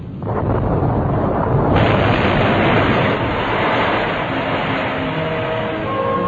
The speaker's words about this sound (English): As he spoke, there was a great clap of thunder.